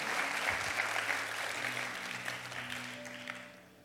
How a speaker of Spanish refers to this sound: Vamos, denle ese aplauso fuerte al Señor.